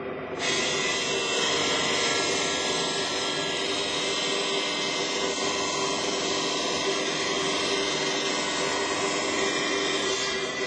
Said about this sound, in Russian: На этом станке установлен образец гранита. Алмазная пила диаметром 400 мм начинает рез.